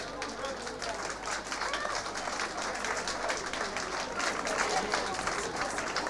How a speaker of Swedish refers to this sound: För i Aftondans denna annandag jul 1987 börjar närma sig sitt slut. Jag tycker vi ger Kent Eriks en stor applåd och tackar honom för en fin danskväll.